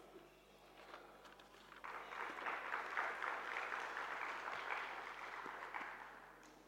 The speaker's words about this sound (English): Please welcome us with a round of applause.